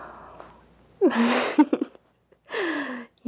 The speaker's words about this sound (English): Yeah, in case you couldn't tell by my yawning.